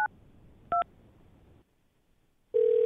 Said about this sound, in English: I think it's time we dial the phone. Yes, don't you?